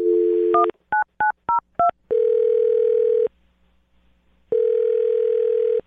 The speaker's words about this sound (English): All right. I'm going to dial her phone number right now and get your second date update, okay?